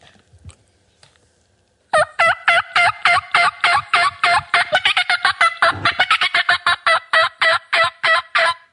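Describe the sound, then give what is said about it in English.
A turkey call is played in a rapid, steady series of loud, raspy yelps, about two dozen notes in a row with a brief pause midway, after a moment of near silence. “So you'll, be pulling the call apart in the middle of the morning. And yeah. Well, hit a couple notes on your, your first one.”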